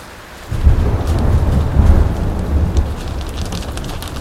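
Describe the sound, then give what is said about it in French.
A loud storm at sea during a boat crossing breaks in with a deep rumble of thunder over steady rain and wind, the low roar swelling suddenly after a quiet start and rolling on continuously without any voices. “La mer s'est mise à gronder.”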